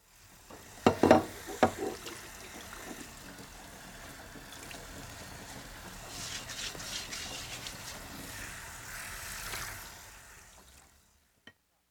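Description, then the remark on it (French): Dishes being washed in a sink: a few sharp clinks of crockery at the start, then a steady rush of running water and faint scraping that continues for several seconds before stopping. “Je fais la vaisselle.”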